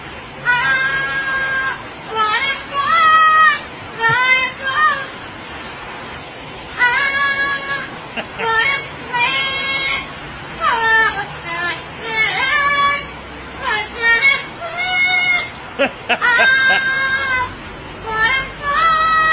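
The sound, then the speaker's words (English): A parrot sings a human-like, pop-style melody in loud, warbling phrases with short pauses between them, its voice sliding up and down in pitch throughout. “Listen to this parrot.”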